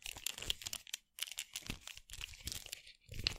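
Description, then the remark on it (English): Plastic joints creak and click as a toy action figure with many ball joints is flexed near the mic, a run of dry crinkly crunches and squeaks in irregular bursts with a brief pause midway, moderately loud with no talking. “but there's just a lot of ball joints on these, and so they actually have decent flexibility. Makes a lot of noise, so I'm not going to do it too much near the mic.”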